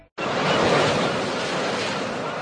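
A loud, steady wash of surf comes in abruptly after a brief silence and rolls on without pause, like waves breaking close on a shore. No voices.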